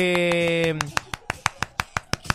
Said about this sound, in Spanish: Son 500. Estoy aplaudiendo por cada Super 8. Son 500 Super 8. Estoy haciendo un aplauso español. Españolísimo. Pues ole.